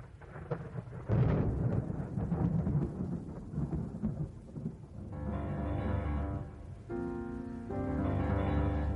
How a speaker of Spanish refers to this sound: Pensabas que no, ¿eh? Pensabas que no, pero sí. Ahí lo tenía yo preparado, los rayos y los truenos.